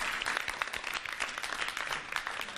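Sustained audience clapping, a dense crackle of many hands at a steady moderate level, continuing without a break and with no voices over it, encouraging contestants after their arrow-shooting round on the TV contest show Contest Ek Saath.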